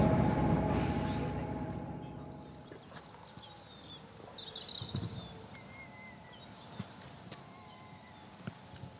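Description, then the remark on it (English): A train rumbles along a railway line on the west coast of Scotland, loud at first, then easing into a quieter steady roll with occasional clacks from the rails and faint high chirps. “This has got to be one of the most beautiful railway lines anywhere in the world.”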